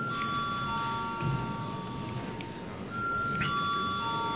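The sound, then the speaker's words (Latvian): A parliamentary voting bell rings steadily before a vote on a bill in its second reading, a sustained electronic tone that shifts slightly partway through, heard over a low hum with no talking. “Paldies, lūdzu zvanu.”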